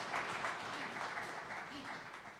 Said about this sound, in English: Clap to the name of Jesus. Just give a hand of clap to the name of Jesus. Amen.